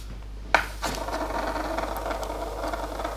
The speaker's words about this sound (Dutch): Muntje bij de hand. Ja, gaat tossen. Komt-ie.